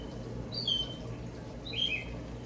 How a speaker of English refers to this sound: These tropical birds are fantastic, I gotta tell you. It's beautiful design. I see you guys jumping around the trees.